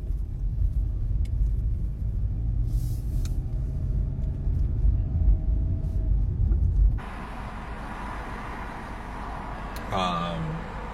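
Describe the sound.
Heavy, continuous road traffic of many cars rumbles loudly for several seconds, then the scene abruptly shifts to a thinner, hissier background with a brief voice near the end.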